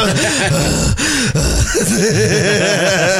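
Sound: imitated heavy panting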